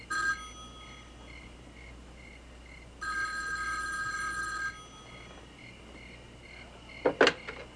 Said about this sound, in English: Pick up the phone, please.